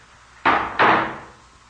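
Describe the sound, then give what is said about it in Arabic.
The heavy door of Noah's ark swings shut with two quick, solid thuds less than half a second apart, fairly loud, each bang trailing off into a short echo. No voices. “بعد ذلك أقفل الله الباب.”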